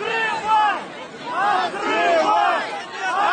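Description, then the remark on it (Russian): A loud crowd chants «Открывай» ("Open up") in unison while rocking a police car, voices rising and falling in rhythmic swells roughly once a second, with overlapping shouts and a steady roar of many people underneath. “В соцсетях появилось много видеороликов, на которых видно, как собравшиеся скачивали полицейскую машину и скандировали «Открывай», решив, что в ней находится подозреваемый.”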